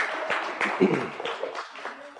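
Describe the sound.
An audience applauds in a steady, dense wash of clapping lasting about two seconds, moderately loud, with a few indistinct voices mixed into the noise.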